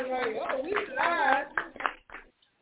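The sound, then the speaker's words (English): A short burst of applause from a few people live in a studio at a newly opened office in Orlando, mixed with cheering voices, ending in a handful of scattered claps before it falls quiet. “Ain't that, let's clap that up.”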